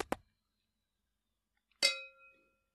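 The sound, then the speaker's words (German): Two glasses clink together in a toast: a pair of quick taps, a short pause, then one bright ringing clink that lingers and fades. No one speaks. “So, darauf trinken wir jetzt erstmal ein.”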